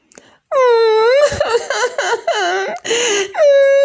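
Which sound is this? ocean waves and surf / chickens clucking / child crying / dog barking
child crying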